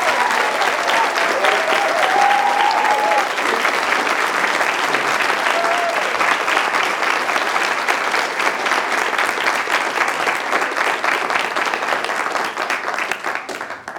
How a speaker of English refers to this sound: Firstly, could you please join me in applauding all of our contestants today who I think did a fantastic job.